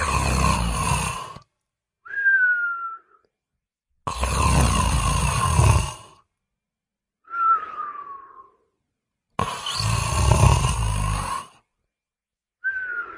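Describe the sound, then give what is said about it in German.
Loud, rhythmic snoring of a small, stout gnome asleep in an armchair repeats three times: each long rasping inhale is followed by a softer, whistling exhale that glides downward in pitch, with brief pauses between breaths. “Bei jedem Atemzug zittert sein Bart und ein lautes Brummen ertönt.”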